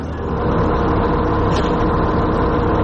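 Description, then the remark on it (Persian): A steady, loud engine drone fills the ride, the deep rumble of a bus motor running continuously from inside the vehicle on a bus trip to Tabriz, Iran, with no voices and no change in pace. “من تصمیم گرفتم برم ارمنستان واکسن بزنم و الانم با اتوبوس دارم میرم تبریز و از اونجا هم باید یه ماشین رو بگیرم و برم مرز نوردوز و از اونجا هم وارد خاک ارمنستان بشم.”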